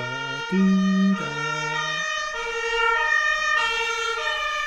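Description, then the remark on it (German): A fire engine siren wails through a series of stepped two-tone pitch changes, fairly loud and sustained, with faint road rumble underneath as the vehicle goes by. “Nein, nur die Feuerwehr natürlich.”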